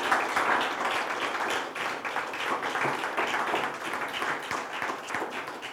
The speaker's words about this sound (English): And I wonder in this moment, as you think about that, if we can just give God a great round of applause and give him all the glory today.